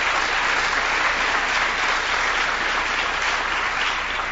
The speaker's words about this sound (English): First, to our Chancellor, thank you so much, Chancellor Cantor. Let's give her a round of applause for her help.